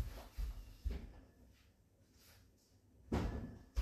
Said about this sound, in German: So, Tür zu, weiter geht's.